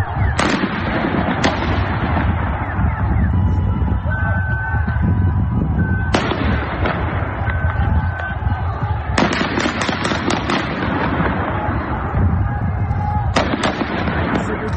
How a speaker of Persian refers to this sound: در شهرهای مختلف ایران در روز دوشنبه هم فضا به شدت امنیتی بود. گزارش‌ها از حضور پررنگ نیروهای امنیتی از واحدهای مختلف نظامی حکایت داره و صدای شلیک گلوله هم شنیده شده.